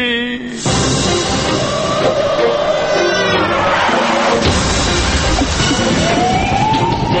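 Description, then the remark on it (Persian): An ambulance siren wails loudly, its pitch sweeping up and down continuously over a dense wash of crowd and street noise, as emergency crews take the Guardian Council spokesman to hospital after he faints. “ایشان دیگر به خاطر گریه های شدید قش کرده توسط نیروهای اورژانس به بیمارستان منتقل شد. خبرنگار واحد غیر مرکزی خبر توی آمبولانس در حال نوازش و دلداری مدق مرد صدق و امانت یا امان آقای کت خدایی.”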